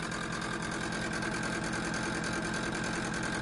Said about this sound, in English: Actually, that's not a diesel engine. I don't know what it is, but it's rather loud. As you can tell, it's just something that has to do with the motor of the fridge is obviously not working completely properly, but it keeps things very cold.